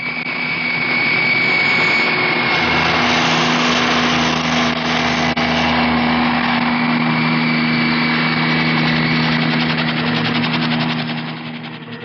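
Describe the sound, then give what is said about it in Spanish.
A loud, steady engine roar with a droning whine of helicopters passing overhead before dawn near Offenburg, flying over nearby heights and descending, holding constant for about twelve seconds with no voices. “Antes del amanecer, los helicópteros han sobrevolado las alturas cercanas y han bajado para que los pistoleros de Chatras exploren diversas zonas”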